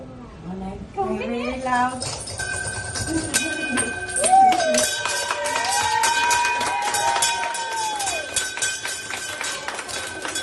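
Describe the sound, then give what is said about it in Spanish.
A bell is rung over and over by a four-year-old girl to mark the end of her medical treatment, its bright sustained tones layered over rapid strikes, while a crowd cheers, claps and calls out, with a child's voice among them. “que ahora tiene ya 4 años, recibió la mejor noticia de su corta vida a principios de este mes de septiembre y pudo por fin tocar la campana que indica el fin de su tratamiento.”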